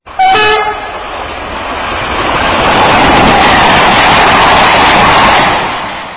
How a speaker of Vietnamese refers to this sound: Tôi không hề ngửi thấy hương rừng như người ta thường hay miêu tả, có lẽ bởi vì con tàu chạy với tốc độ nhanh, cửa kính đóng kín, nên hương sắc của rừng khó có thể lọt qua.